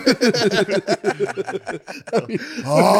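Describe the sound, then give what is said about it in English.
A person vocally imitates a man's sleep apnea snore heard from another room: choppy, halting voiced bursts that end in a loud, drawn-out gasping groan. “Phil's apnea from the other room. You hear him just like, ah.”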